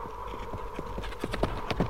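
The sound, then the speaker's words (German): Horse hooves clip-clop in a quickening rhythm as a rider swings onto the horse and turns around on the spot to ride off, several sharp hoof strikes over a steady low rumble, moderately loud, with no voices. “Schnell schwingt sich der Mörder auf sein Pferd und macht auf der Stelle kehrt.”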